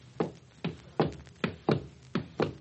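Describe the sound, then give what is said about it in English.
Six footsteps of an opera conductor entering the orchestra pit tap out a steady walking rhythm. Each is a sharp, fairly loud thud with a brief low resonance, spaced about half a second apart, with no voices. “Now you hear the conductor's footsteps when he enters the pit.”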